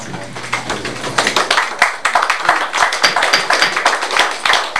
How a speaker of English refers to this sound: Please, this is a business meeting and I'd like for you to hold all your clapping and we'll get on with the business.